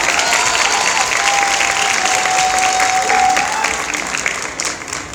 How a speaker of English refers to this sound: On applaudit!